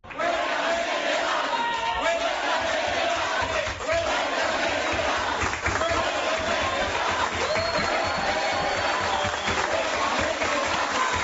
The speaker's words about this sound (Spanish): Fíjate que en esa asamblea de delegados de sindicalistas de base, ayer se escuchaba este tono, yo diría que de euforia. Así lo decidían y así lo aplaudían tras aprobarlo.